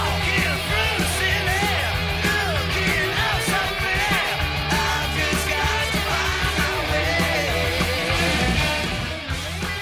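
A loud, dense heavy metal song with a punkish edge plays throughout: driving distorted guitars, steady pounding drums and a raspy male voice singing over the band.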